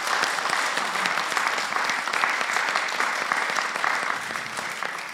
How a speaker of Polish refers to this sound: Myślę, że brawa dla profesora tutaj.